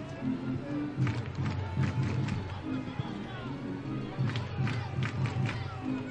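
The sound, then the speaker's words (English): A large stadium crowd at a Mets baseball game boos a call it doesn't like, in a sustained, low, droning roar that swells slightly in places and holds steady throughout, with scattered shouts mixed into the mass of voices. “Crowd still booing.”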